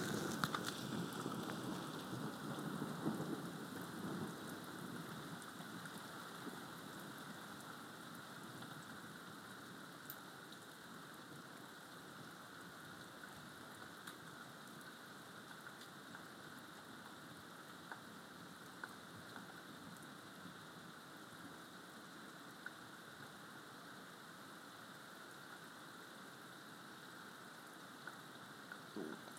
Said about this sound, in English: That was quite bright. The rain getting heavier again.